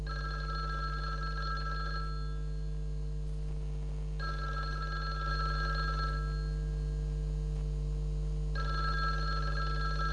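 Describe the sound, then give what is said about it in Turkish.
A telephone rings in three bursts of about two seconds each, separated by short pauses, its bright trilling tone clear over a steady low hum. “Şöl telefonu alasanız da! A telefon kıyırıp seslenip yarlı da!”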